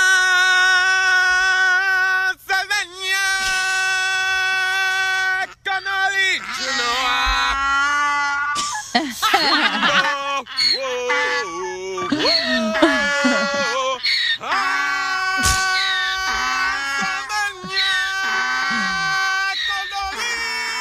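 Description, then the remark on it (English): A donkey named Nathan brays loudly and repeatedly in long, wavering honks while a man standing with it and a horse in a pasture sings along, the two voices overlapping throughout. “He's got like a donkey. Like, hee-haw, hee-haw.”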